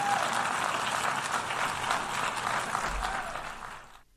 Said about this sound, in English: Now, there's very little applause because the vast majority of the delegates walked out because they're cowards.